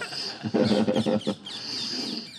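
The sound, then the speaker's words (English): Parrots calling from under the desire trees, in a loud, harsh burst of overlapping squawks lasting about a second, followed by thinner, higher chattering that continues steadily. “from under the desire trees here with the beautiful parrots assisting us in the verbal communication.”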